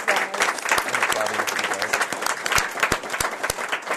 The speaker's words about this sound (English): Thank you all very much for your comments. How about a round of applause for all the panelists?